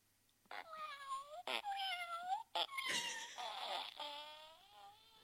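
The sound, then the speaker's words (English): A cat fart: a string of squeaky, whining, meow-like toots with sputtery bursts between them, rising and falling in pitch for about five seconds, fairly loud with no talking. “Cat fart.”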